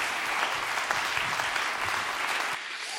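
Steady applause from an audience at a church service for a speaker, a dense wash of many hands clapping at a fairly loud, even level, easing slightly toward the end.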